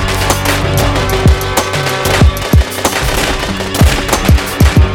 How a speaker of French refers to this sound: Et une pluie de balles lui défonce le torse.